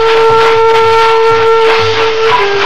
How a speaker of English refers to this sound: The brakes are applied and the train slows down.